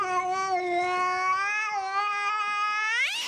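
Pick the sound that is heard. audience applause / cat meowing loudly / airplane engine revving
cat meowing loudly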